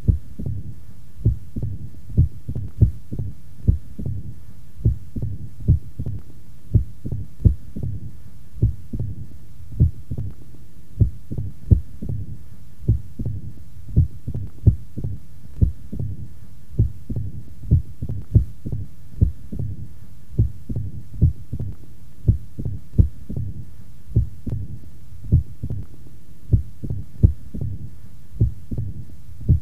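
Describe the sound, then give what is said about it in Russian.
Heart sounds from a stethoscope recording of mitral stenosis with atrial fibrillation in a female patient, taken at the first auscultation point: a steady train of low, thudding beats with a diastolic murmur between them, continuing alone for about half a minute with no talking. “Прослушайте запись, сделанную в первой точке аускультации у больной со стенозом отверстия митрального клапана и мерцательной аритмией.”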